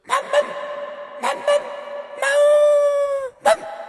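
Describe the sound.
A person imitates a dog: two pairs of short, yappy barks, then a long drawn-out howl, ending with one more sharp bark.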